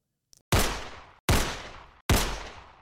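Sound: gunshots fired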